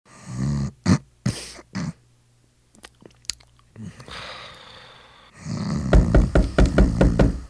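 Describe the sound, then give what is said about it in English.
A few heavy thuds land, then after a quiet stretch a rapid, loud barrage of pounding knocks on a door, with no voices. “Yeah, what heavy-handed hamburger helper hand dude knocking at my door like that?”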